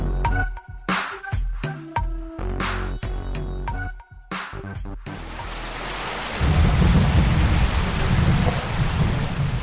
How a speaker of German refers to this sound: Es regnet wieder heftig in Rancho San Marcos im Westen El Salvadors. Der Beginn der Regenzeit.